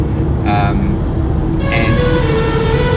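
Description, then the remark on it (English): Two short car horn blasts sound about a second apart, ringing out over a loud, continuous rumble of traffic echoing in an enclosed tunnel. “I'm in a tunnel, people honking horns, I don't know why.”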